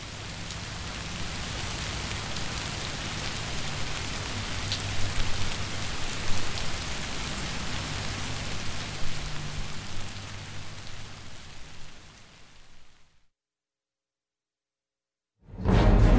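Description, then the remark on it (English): Steady, heavy rain from a rainstorm moving through northern Michigan pours down continuously for about thirteen seconds, a dense hiss of drops hitting surfaces with a low rumble underneath, then cuts to silence before a brief burst of sound returns. “we have a little bit of weather, a recent heavy rainstorm that moved through northern Michigan.”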